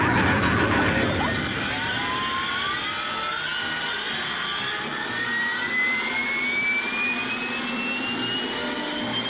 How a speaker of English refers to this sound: A big contribution is made by the starter. He gets all four engines running together, not one after another.